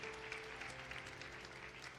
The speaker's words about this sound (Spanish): Un aplauso.